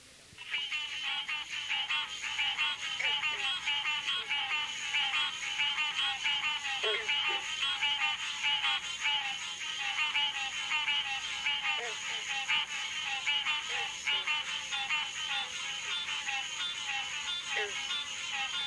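A dense, continuous chorus of frogs calling, a Florida species common around lakes and large marshes, heard on a summer evening, with occasional low, plucked twanging notes of bronze frogs sounding now and then beneath it; steady and fairly loud throughout, no voices.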